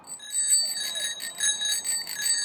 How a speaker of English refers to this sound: Why would you ring a bell on a bike? So that you can tell anybody who you're gonna pass by that you're behind them and you don't scare them and they fall over or something.